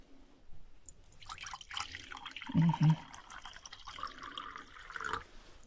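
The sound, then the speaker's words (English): Tea being poured into a cup, a steady trickle of liquid lasting several seconds, with a couple of soft clunks partway through and no talking. “Can I pour you some tea?”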